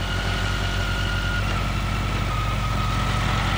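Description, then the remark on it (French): A small scooter engine idles steadily as the scooter is stopped at the side of a road at night, a constant low rumble with a faint whine riding on top, no voices. “Il va arrêter son scooter au bord de la route.”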